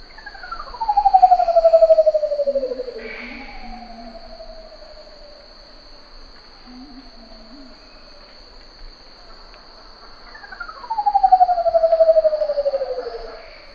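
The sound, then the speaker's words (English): A curl-crested manucode, a bird of paradise, calls with long, descending, whistled notes that swoop down in pitch, two loud ones framing fainter echoing calls, over a steady high insect drone in the background. “I do want to play another clip that you brought of a bird of paradise. This is the curl-crested manakote.”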